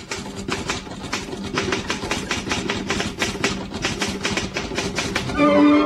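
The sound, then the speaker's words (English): A typewriter types a message for a CHUM radio typewriter contest in Toronto, clattering through a steady run of rapid, sharp keystrokes over a low droning hum and ending with a brief bright ringing tone. “Just listen to this typewritten message.”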